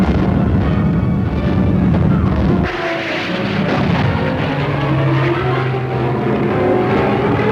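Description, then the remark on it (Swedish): Rocket-firing Typhoon fighter-bombers roar loudly overhead as they race back and forth attacking enemy positions on the east bank of the Rhine, a continuous droning engine noise whose pitch shifts with a sudden change about a third of the way through. No one speaks. “Raketsprutande Typhoon-plan rusar fram och tillbaka över fiendens ställningar och anfaller varje motståndsnäste på östra Renstranden.”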